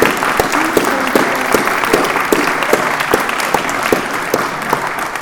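An audience claps in a sustained round of applause, dense and steady with many overlapping hand claps and a few sharper individual claps standing out, fairly loud throughout with no talking.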